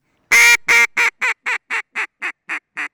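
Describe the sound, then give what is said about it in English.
A duck call blown by a hunter in a loud hail sequence of about ten nasal quacks, starting strong and fading steadily in a quick, even rhythm, with no one talking, calling to ducks imagined 100 yards away. “He spots imaginary ducks at 100 yards away. He calls them once. They ignore him. So he calls them again.”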